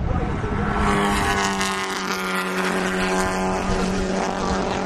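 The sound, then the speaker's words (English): A tight pack of four race cars roars past on lap five through the S's, their engines blending into one loud, sustained droning whine that holds steady throughout with no gaps between the cars. “Four cars bunched tight together, just going by.”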